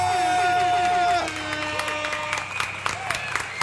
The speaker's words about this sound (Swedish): Vi kör såklart en applåd och en liten tuta på det!